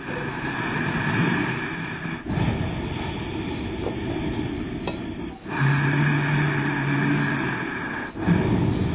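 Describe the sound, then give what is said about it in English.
Ujjayi yoga breathing, a pranayama breathing technique done through the throat without using the nose: long, steady, rushing breaths drawn through a constricted throat, roughly three strokes of about three seconds each, split by brief pauses, with no talking. “It's called Ujjayi breath. It's a pranayama, which is a type of breathing.”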